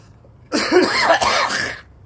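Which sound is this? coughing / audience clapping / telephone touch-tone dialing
coughing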